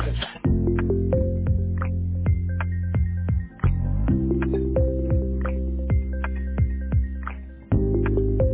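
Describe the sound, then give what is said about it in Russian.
A synthesized phone ringback melody plays steadily for several seconds, bright electronic notes repeating over a sustained low tone, with brief gaps between phrases and no one picking up or speaking. “Вызываемый вами абонент сейчас не отвечает.”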